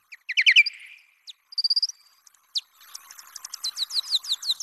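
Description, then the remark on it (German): Song of a male Nathusius' pipistrelle bat, made audible for human hearing: quick bursts of high, twittering chirps in short repeated groups, followed by a longer run of rhythmic, bird-like trills that grow louder toward the end. “Jetzt hören wir uns also an den Gesang eines Männchens, der Rauhautfledermaus.”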